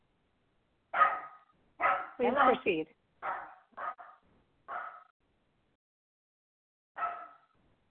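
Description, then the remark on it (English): A dog barks repeatedly in short, sharp, loud bursts, with irregular gaps between barks. A few brief spoken words are mixed in among them. “Let me get rid of this dog.”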